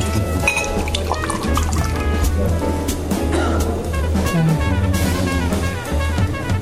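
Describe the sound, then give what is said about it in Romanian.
Champagne from a bottle already opened by a waiter pours into glasses at a restaurant table with a steady liquid splash and fizzy trickle, moderately loud, running for several seconds over a busy, tonal background. “Garson, adu-ne o sticlă de șampanie și te rog scoate dopul înainte de a o aduce la masă.”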